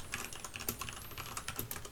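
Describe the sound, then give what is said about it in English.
Rapid, irregular clicking of someone typing on a computer keyboard while opening song lyrics, fairly quiet, with a steady patter of keystrokes and no voices. “I'm just getting all the lyrics open, so give me a bit and listen to my keyboard.”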